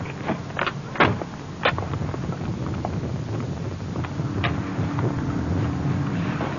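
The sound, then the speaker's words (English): A flooded car engine cranks with a steady, gritty mechanical rumble and a few sharp clanks, turning over without catching. It is moderately loud, with no voices. “What's the matter with this thing, anyway? Huh. Nothing. Yeah, maybe I flooded it.”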